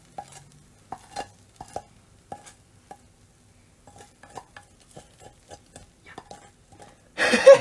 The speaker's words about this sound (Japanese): じゃあちょっと炒めて盛り付けていきます。 鍋にこびりついてたやつがちょっと取れてない。 そうやな、焦げ。